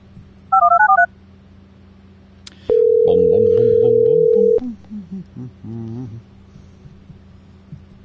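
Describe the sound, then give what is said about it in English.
A quick run of telephone keypad beeps is followed by a steady, loud dial-type tone lasting about two seconds, with a voice murmuring underneath and continuing briefly afterward. “The phone number I just called like a few minutes ago, I can't call now.”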